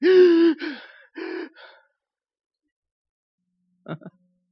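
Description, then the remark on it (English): A person lets out a run of loud, voiced gasps for breath, then falls silent before two quick, sharp intakes of air near the end. “I'd be gasping for breath.”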